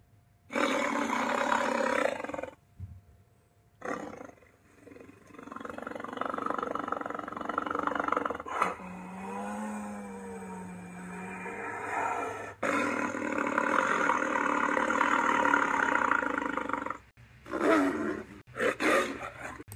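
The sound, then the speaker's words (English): A series of deep, tiger-like Ceratosaurus dinosaur roars, loud, each rumbling and growling for several seconds with brief pauses between bursts, including one long, wavering roar in the middle. “In real life, I think Ceratosaurus sounded like a tiger, because when it comes to sounds, if Allosaurus was the lion of the Jurassic, then Ceratosaurus was the tiger.”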